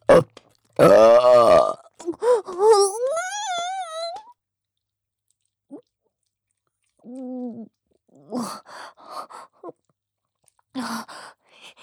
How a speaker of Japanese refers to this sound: ゲップしながら行っちゃう。